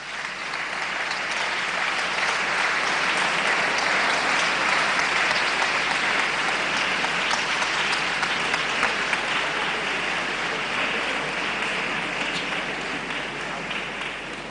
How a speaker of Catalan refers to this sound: Rebem, doncs, amb un fort aplaudiment a la Mega Pubilla.